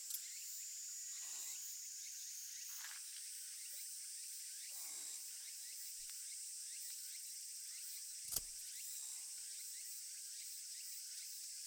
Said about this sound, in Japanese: セミ、うるさいくらいです。